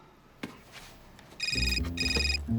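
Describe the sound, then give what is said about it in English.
Harry's cell phone rings in two quick electronic bursts, bright and fairly loud, over a low rumbling background with no one speaking. “Harry answers his cell phone.”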